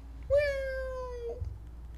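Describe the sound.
A person imitates a cat with one drawn-out meow, about a second long, its pitch sliding gently downward. It is fairly loud, alone against a low background hum.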